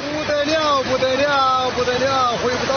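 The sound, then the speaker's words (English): Floodwater from heavy rain rushes loudly and steadily down a street in the city of Anshu, China, filmed on a cell phone, in a continuous broad roar, while a man's voice repeats "unbelievable" in Chinese in drawn-out, wavering phrases over the torrent. “In a cell phone video taken this week in the city of Anshu, water gushes down the street and a man watches, repeating "unbelievable" over and over in Chinese.”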